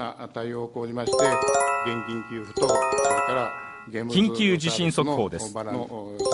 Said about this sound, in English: When a devastating earthquake shook Japan last month, some residents knew it was coming. In this clip, you can hear the warning bells interrupting Japanese television.